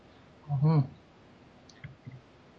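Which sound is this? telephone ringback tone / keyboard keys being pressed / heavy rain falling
keyboard keys being pressed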